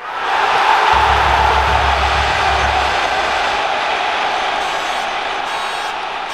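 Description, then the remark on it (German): A large crowd roars and cheers in a loud, sustained wash of voices, with a low rumble underneath early on and the noise holding steady for several seconds, after a headed goal in the second half of a football match. “Die Menge jubelte.”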